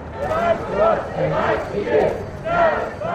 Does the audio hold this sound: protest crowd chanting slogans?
yes